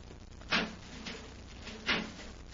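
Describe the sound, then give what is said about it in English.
A heavy metal door is opened: two sharp clanks about a second and a half apart, with faint scraping between them, and no voices. “a metal door, Hap. Let's see if we can open it.”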